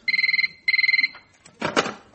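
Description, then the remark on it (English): A telephone rings with two quick bursts of rapid, warbling trill, a short pause between them, then a brief rustling clatter as the ringing stops. “I was just ringing to say I'm on my way back.”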